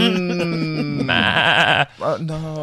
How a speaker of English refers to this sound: Some stray sheep stuck in a fence.